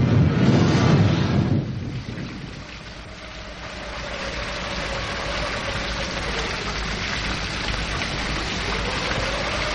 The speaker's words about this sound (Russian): Эй, вы, дожди облажные, ливни проливные, туда, туда, туда.